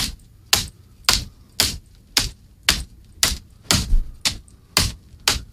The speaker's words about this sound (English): You can hear that. Mm-hmm. You can hear the slapping. Right. Not the thudding, the slapping.